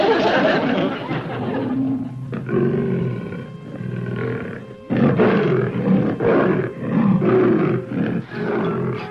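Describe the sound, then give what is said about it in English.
A person's voice imitates a lion inside a house, letting out long, loud, rumbling roars and growls, with a short break in the middle before the roaring resumes more forcefully. “That phony growl.”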